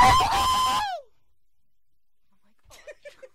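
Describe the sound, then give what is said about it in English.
A person loudly imitates a rooster's crow, one strained, drawn-out call that slides downward at the end, followed by silence and then a few faint, brief vocal sounds. “And a rooster. I suppose that was a rooster.”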